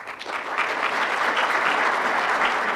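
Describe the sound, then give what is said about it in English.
Steady applause from a large audience at the 9th Annual Earth Day Conference, organized by the UW-Madison Nelson Institute in Madison, as scientists spell out the potential harm of a changing climate. A dense wash of clapping hands swells slightly at the start, then holds at an even, fairly loud level throughout. “At the 9th Annual Earth Day Conference organized by the UW-Madison Nelson Institute, several scientists drew applause as they spelled out the potential harm that may come from a changing climate.”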